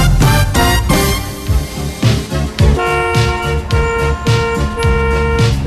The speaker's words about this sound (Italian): È un traffico allucinante quello che c'è qui davanti a noi. Faremo tardissimo.